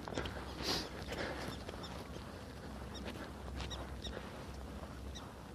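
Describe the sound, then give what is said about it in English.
Prairie dog squeaks out on the prairie in the morning, several short high chirps spaced irregularly across an open outdoor ambience with steady wind-like background noise and no talking. “Prairie dog squeaking out there, out on the prairie.”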